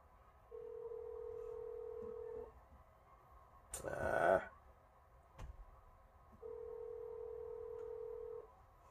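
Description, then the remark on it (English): Telephone keypad tones while dialing into a conference call: two long, steady, low-pitched beeps, each about two seconds, separated by a brief rustling clatter and a sharp click, all fairly faint with no talking. “Hit the wrong number. Let me try this one more time here.”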